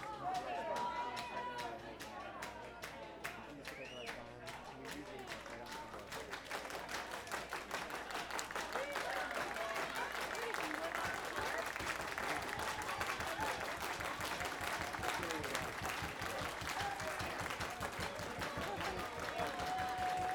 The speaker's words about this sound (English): All right, that's the way they used to clap in the 70s. All right, this is the double O's. The 90s happened. This is how we clap now. Watch. Watch me.